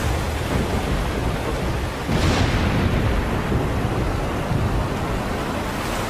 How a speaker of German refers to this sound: Ich glaube, ein Sturm zieht auf, rief einer der Jünger.